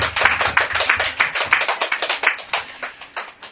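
A church audience breaks into steady applause of thanks to the Lord at the end of a prayer, many hands clapping in a dense, crackling wash that holds for a few seconds, then thins and tapers off toward the end.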